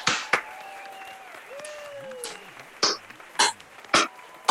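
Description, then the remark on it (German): A thin, scattered round of applause: a handful of separate sharp claps spaced about half a second apart, with some whistle-like sliding tones early on and no talking, the speakers applauding themselves for a productive year. “Muss man mal kurz einen Applaus für uns.”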